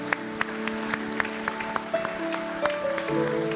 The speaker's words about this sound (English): Hey, let's give the Lord a clap for those who raise their hand.